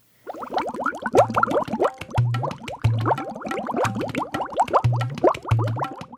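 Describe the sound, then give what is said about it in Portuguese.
A thick liquid, a magic potion in a cauldron, bubbles steadily, with dense, rapid plops and rising blips, fairly loud, broken by short low humming pulses that recur every second or so. “Na porção mágica que borbulha estão as lembranças do escritor, seus afetos, suas referências de mundo.”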